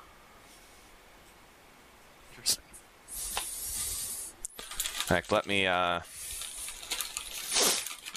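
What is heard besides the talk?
paper crinkling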